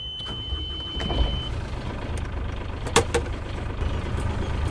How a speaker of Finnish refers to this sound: Pannaan moottori päälle ja tästä se alkaa.